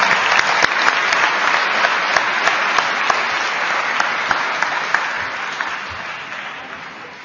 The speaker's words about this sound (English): So let's give a big round of applause to all these people that have helped us during this celebration.